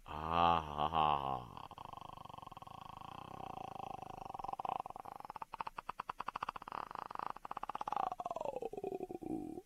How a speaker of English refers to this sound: Lions roar? What the hell is that? That was cool, right? I've been working on that sound to try to clear my throat. You sound like the girl from The Ring. Yeah, that was pretty cool, huh?